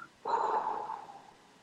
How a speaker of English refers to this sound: But it's also really good to breathe. Breathe in deeply. a really long breath, any tempo that feels right for you, and then out.